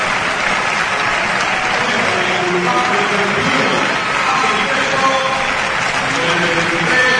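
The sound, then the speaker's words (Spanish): A stadium crowd applauds Pablo Caballero as he is substituted after scoring a hat-trick, in minute 68 with Recre leading 3-0, in a dense, steady roar of clapping that holds at a constant loud level throughout, with faint scattered shouts rising out of the noise. “Los aplausos para Pablo Caballero, que se marcha con un hat-trick al banquillo.”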